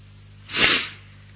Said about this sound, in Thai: จริงๆผมเองก็ไม่อยากจะจามนะแต่ห้ามเขาไม่ได้ห้ามเขาไม่ได้อยากจะจามเอง